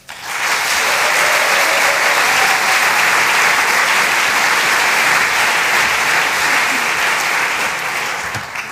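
A large audience claps steadily and loudly for several seconds, a dense, sustained wash of applause that starts abruptly and tapers slightly at the end, with no talking over it.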